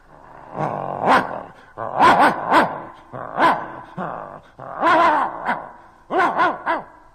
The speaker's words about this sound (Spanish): ¡Qué horror! ¡Qué ladrido tan potente!